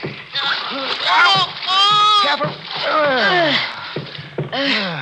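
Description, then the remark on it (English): Water splashes and sloshes as someone is helped up over the side, back into a rowboat out of cold water, and hands over a gun, with strained, animated voices talking and grunting over the continuous splashing. “Help me back in the boat. Yeah, Major. Hand me the gun. Now, come on up over the side.”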